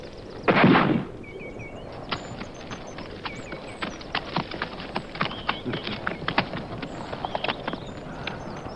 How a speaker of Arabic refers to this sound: أسمعت صوت بندقيتي؟ ألم أقل ألا يغادر أحد مكانه دون إذني؟ لما أطلقت النار؟